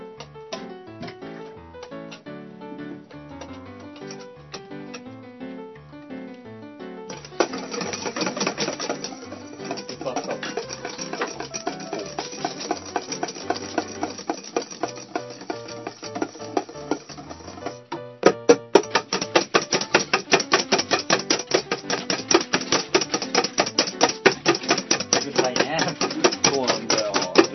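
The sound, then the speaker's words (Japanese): Rapid, continuous clattering of a whisk beating against a bowl while whipping meringue, steady and fairly loud, growing busier and more intense partway through, with voices talking faintly underneath. “こいつら何お前シルバービーク明けからカタカタうるさいんだと。”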